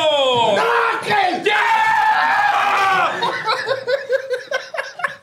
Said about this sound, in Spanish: ¡Yeah! Pinche güey loco, cabrón. Te va a dar algo. Me gritaste. Se va a sacar de pedo al vecino, güey. Te lo juro.